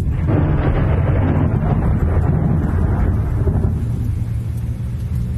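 A lingering thunderstorm after the rain has stopped, in humid, hot air, with a long, deep rumble of thunder rolling continuously, loud and heavy in the low end, slowly easing off toward the close with no voices present.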